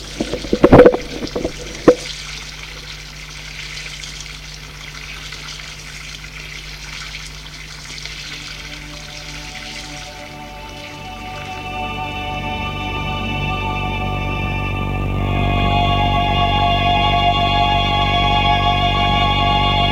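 A few sharp clinks of dishes at the start as someone does the washing-up, then a tap runs steadily into a sink, the pouring tone rising as a vessel fills. No voices.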